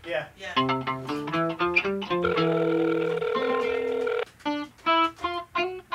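A phone call's ringing tone plays as a bright, electronic melody of short stepped notes, then one long sustained tone, followed by a few more quick pulses.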